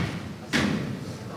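A single hard thud of stilts striking the ground at the start of Holy Week in El Porvenir, one sharp, fairly loud knock that fades quickly over a steady background murmur.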